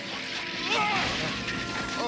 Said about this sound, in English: Tread carefully. There's shattered glass.